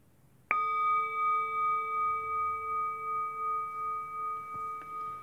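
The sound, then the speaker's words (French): A meditation bell is struck once during a mindfulness meditation session, signaling participants to stand and bow to each other. It rings on with a clear, sustained tone, its layered overtones slowly shimmering and pulsing as the sound fades. No one speaks. “Et au prochain son de la cloche, nous allons nous lever pour nous saluer, comme dans le dojo.”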